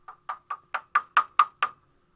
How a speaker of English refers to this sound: Is that the door? I think someone's at your door, dude.